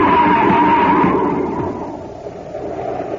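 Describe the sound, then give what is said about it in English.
A car skids on a foggy highway with a high squealing whine over a loud, rushing roar, then the noise gradually fades as it goes over the edge of a cliff, in a scene from the show Space Patrol. No voices are heard. “Happy, look out. We're heading for the edge. Huh? We're going over the cliff!”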